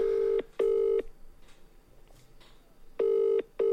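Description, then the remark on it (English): An outgoing call's ringback tone from a call to someone's mother, who does not pick up: a loud, buzzy double ring, two short tones close together, a pause of about two seconds, then another pair. Faint background hiss, no voices. “All right, she's not picking up.”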